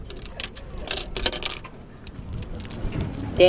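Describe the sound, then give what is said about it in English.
A coin clinks and rattles down into a coin-operated telescope on the crowded observation deck at Twin Peaks, and the telescope swallows the money. A run of bright metallic ticks is followed by a short mechanical clunk, with a faint murmur underneath from the crowd chatting in many languages. “Damn, ate my money.”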